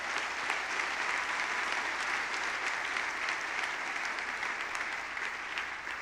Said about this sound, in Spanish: Vamos a dar un aplauso, Señor.